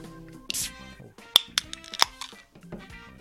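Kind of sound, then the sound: household object, glasses clinking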